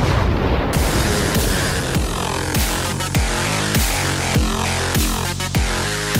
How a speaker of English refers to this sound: Here it comes right after the new song, which is got a right in the middle, has an explosion that's going to be around about now.